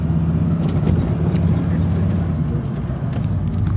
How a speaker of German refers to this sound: So, ich hoffe, das Auto ist jetzt hier nicht zu laut.